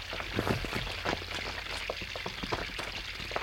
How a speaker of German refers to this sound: Das Wasser läuft den Gang nach unten. Es zeigt uns den Weg zum Mittelpunkt der Erde. Und dabei kühlt es sich zwangsläufig ab.